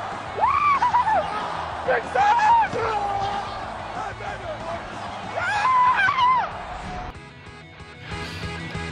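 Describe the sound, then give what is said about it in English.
Ryan Fitzpatrick screams in celebration while watching a game-winning touchdown being scored: several loud, high-pitched yelling bursts that rise and fall in pitch, separated by brief pauses, over a steady background of crowd-like noise. “the Fitz scream, as we kind of called it, is Ryan Fitzpatrick watching the game-winning touchdown being scored in that game”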